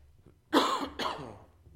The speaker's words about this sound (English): Forgive my cough. Anybody else tired of colds coming through? I feel like at our house it's been like 6 months of somebody having a stuffy nose and a cough and a sore throat, and it just doesn't want to stop.